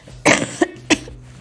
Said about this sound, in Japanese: あ、咳出ちゃった、ごめんなさい。声がね、まだ完全には復活してないんですけど、体調もなんかこうすっきりしないなっていう感じなんですけどね。